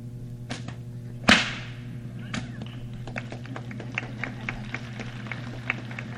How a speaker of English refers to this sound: Not too many whip artists do this.